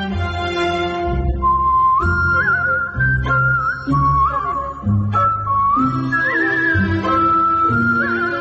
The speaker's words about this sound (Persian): تیتراژ پایانیش رو با سوت اجرا کردم به عنوان سولیست، که تجربه خیلی متفاوت و جالب و ارزشمندی بود برام.